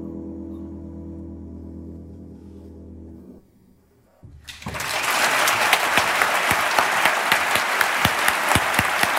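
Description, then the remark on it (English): After a few seconds of low, steady droning tone and a brief lull, loud clapping bursts in and continues, a dense wash of many hands with sharper individual claps standing out. “You may be wondering why I'm clapping.”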